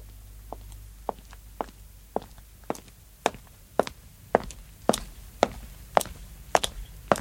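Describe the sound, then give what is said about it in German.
A door is opened and someone walks into the room: about a dozen evenly paced steps growing gradually louder, heard on their own with no talking and only faint background hum at the start. “Ja, ah, aber jetzt war es wirklich die Tür. Herein. Einfach aufmachen. Ja, weitergehen.”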